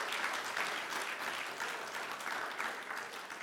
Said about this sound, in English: So I wonder if the kids would like to come out with the leaders. Why don't we all give them a round of applause as they do that, make them feel welcome.